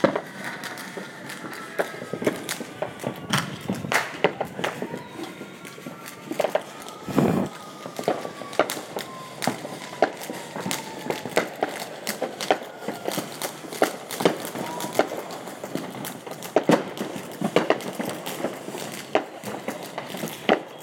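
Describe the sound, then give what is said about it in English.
Fireworks burst outdoors in the Carson area, a steady scatter of sharp pops and crackles at irregular intervals, with faint whistling tones gliding downward between the bangs. No one speaks. “I am outside because I wanted to let you guys hear the sounds of the fireworks.”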